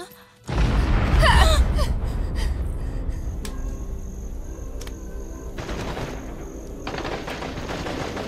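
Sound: gunfire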